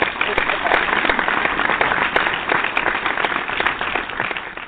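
hand clapping applause

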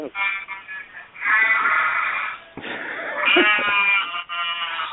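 sheep bleating

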